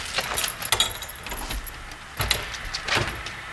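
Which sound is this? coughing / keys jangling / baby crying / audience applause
keys jangling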